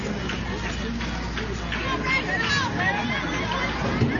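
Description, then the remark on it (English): A steady murmur of a ballpark crowd at a night baseball game on election night, dense overlapping chatter at an even level with scattered brief voices and clatter rising out of the hubbub throughout. “Good crowd tonight on hand for this election night.”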